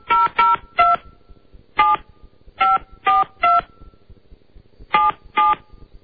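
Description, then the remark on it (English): A phone number is punched in on a keypad: nine crisp, steady dual-tone beeps in uneven clusters with short pauses between groups, each tone loud and clear against a quiet background. “If you ever wanted to call Steve Young's house or Kareem Abdul-Jabbar on his cell, this was and may still be your chance.”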